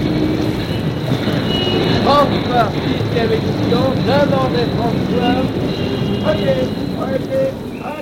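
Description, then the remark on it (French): Several newspaper vendors call out in the streets in loud, drawn-out cries, selling the latest edition, over a steady, noisy street bustle, their shouts overlapping and rising at irregular moments throughout. “Déjà retentissent dans les rues les cris des vendeurs.”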